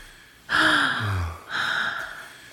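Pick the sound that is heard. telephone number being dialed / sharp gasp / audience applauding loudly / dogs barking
sharp gasp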